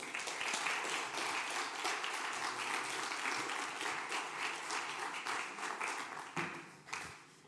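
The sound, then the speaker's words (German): A crowd applauds three people steadily for several seconds, dense overlapping claps at an even loudness, tapering slightly near the end as a few last claps ring out. “Ein Applaus für die drei.”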